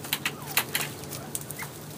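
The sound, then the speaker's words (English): A small covey of quail in an outdoor aviary softly coo and chirp at about 4 o'clock in the afternoon while given a treat of lettuce and tomatoes, a cluster of short high peeps and quiet calls scattered over a low background hum, fairly gentle. “They just sort of coo and chirp.”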